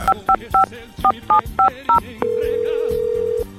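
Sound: telephone dialing tones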